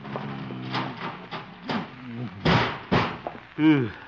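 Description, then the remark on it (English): A heavy filing cabinet thuds and scrapes against a door as it is pushed there to barricade the door, with two loud impacts midway, surrounded by strained grunting vocal noises. “Filing cabinet.”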